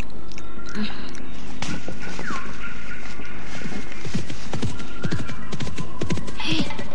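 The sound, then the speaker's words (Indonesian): Horse hooves clip-clop in an uneven rhythm, growing more distinct toward the end as if drawing nearer, over a low rumbling background with no one speaking. “Suara langkah kuda menuju ke arahku.”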